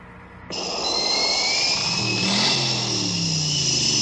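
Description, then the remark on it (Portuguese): A V8 car engine, called the last of the V8s, running on nitro with twin carburetion and 600 horsepower, roars to life after a brief low hum, then revs hard and holds a loud, steady growl with a rising whine layered on top, no voices present. “Esse é o último dos motores V8.”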